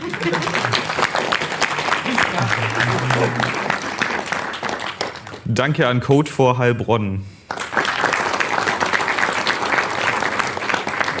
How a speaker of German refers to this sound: Währenddessen danke ans Hackwerk Aalen. Danke an Coach. Genau, klatscht.